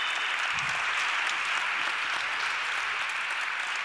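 Steady, dense applause from an audience at the Riaz Media Awards 2026 ceremony in Berlin's Rotes Rathaus, a continuous bright crackle of many hands clapping at an even loudness for several seconds with no voices standing out.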